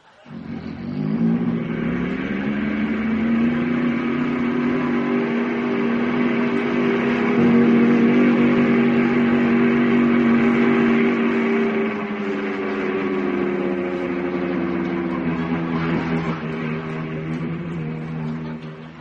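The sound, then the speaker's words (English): A loud, steady airplane engine drone fills the whole recording, its pitch climbing slightly as power builds, then holding in a sustained roar like a plane taking off and cruising. No voices. “Beautiful sound of the engines.”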